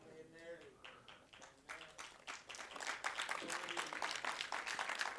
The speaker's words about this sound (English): So on that note, since y'all applauded, I'm going to stop right. That's how you shut me up, is if you applaud, let's all stand.